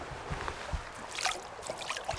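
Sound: flowing river water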